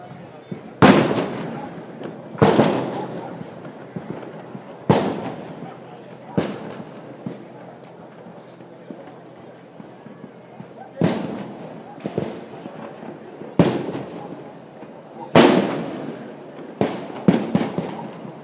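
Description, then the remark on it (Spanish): A series of loud, dry arquebus gunshots from a group of shooters rings out at irregular intervals, some fired in quick pairs, each crack trailing off in a short echo over a low murmur of background voices; one clap-like sound is a misfire where the powder failed to ignite. “Como podréis comprobar, el trueno del arcabuz es bastante seco.”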